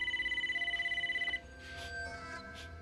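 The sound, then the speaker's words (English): A telephone rings with a rapid, trilling electronic warble for just over a second, then cuts off, leaving faint rustling room noise behind; the captain is calling back. “picks up the phone and holds it out to Jim with an eloquent look. This is the captain calling back.”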